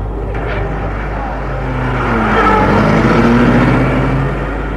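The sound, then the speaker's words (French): A taxi's engine hums with a low, steady rumble, rising slightly as it pulls away from the entrance of a mansion on boulevard Malesherbes, its tone shifting then fading a little toward the end. “Le chauffeur s'est éloigné.”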